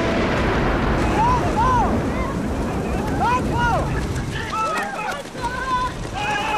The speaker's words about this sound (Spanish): Por la tarde llueve torrencialmente.